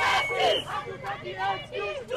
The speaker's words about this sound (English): A crowd of about 60 activists marched past the Supreme Court, the police headquarters, and toward the National Assembly, chanting, "We don't want excuses, we want justice."